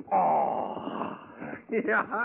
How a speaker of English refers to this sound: Hey, hear the cougar howl tonight.